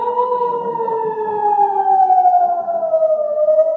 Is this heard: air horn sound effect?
no